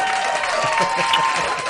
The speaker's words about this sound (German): Super, hier kommt dein Applaus.